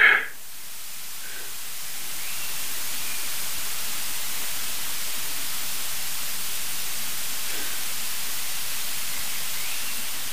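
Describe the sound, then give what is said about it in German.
A steady, broad rush of wind fills the scene, continuous and fairly loud, with no talking and only faint changes in intensity across its length. “Wir hören Wind rauschen, das war's.”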